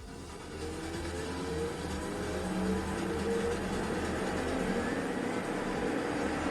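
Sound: airplane taking off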